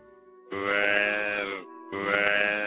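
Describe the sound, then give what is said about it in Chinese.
A large adult deer following behind calls out twice in loud, drawn-out, moaning bellows with a rough, harmonic tone, preceded by a fainter low hum; the second call is cut off at the end. “是只大鹿，它为什么一直跟在后面不停地鸣叫呢？”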